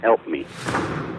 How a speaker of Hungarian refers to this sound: Ó, egy újabb lövés. Megint egy. Hallom. Még egy. Ez már 3.